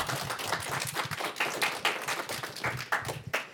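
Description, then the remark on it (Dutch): A studio audience breaks into applause for three experts from the Moendoes College seated at the table: many hands clapping in a dense, steady patter that holds at an even, fairly loud level throughout, with a few sharper claps standing out. “Geef ze een heel groot applaus.”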